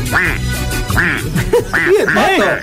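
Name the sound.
duck quacking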